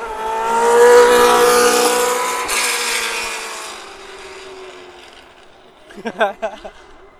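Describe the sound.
A loud, high-pitched F1 race car engine roars and revs for several seconds, with tire smoke coming out the back of the car, then fades away as it recedes, followed by a brief burst of someone talking.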